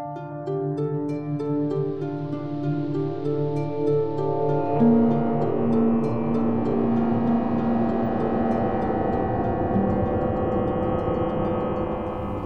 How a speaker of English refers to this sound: I haven't heard that sound in a while. A tractor beam. It's a common trope in science fiction film, isn't it? It is. It's some sort of beam that acts like a rope for pulling defunct spacecraft around or hauling cows up into the bay of your starship.